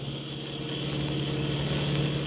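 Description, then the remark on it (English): A car engine hums steadily as the car drives through a tunnel, with a low, constant drone and a broad roar of road noise, fairly loud, holding even throughout with no voices. “This is the center here. I'll pull up here.”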